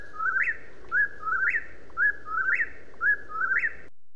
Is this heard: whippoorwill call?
yes